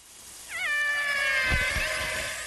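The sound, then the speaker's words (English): A killer whale contact call: one loud, siren-like tonal cry that sweeps up sharply, then holds steady with bright, whistly overtones for about two seconds, with no voices present. “That's the really loud siren-like call they give when they're trying to make contact with other animals a long distance away.”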